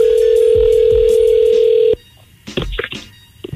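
A loud, steady telephone tone drones for about two seconds as a call is placed from the Ebro in the Morning radio show, then cuts off abruptly, followed by a brief hush and some muffled, faint sounds on the line.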